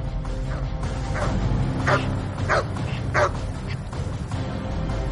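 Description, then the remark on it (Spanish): Dogs bark in a short run of sharp, separate woofs, about four or five spaced a beat apart, moderately loud over a steady low rumbling background. “Por suerte, sus patatas fritas bastaron para distraer a los perros y salir del paso.”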